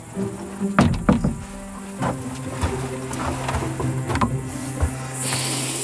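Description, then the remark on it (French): Grasshoppers outdoors give off a steady, high-pitched sizzling buzz, broken by a few sharp clicks, with the hiss swelling slightly louder in the final second. No one speaks. “Ce petit grésillement, là, c'est une sauterelle.”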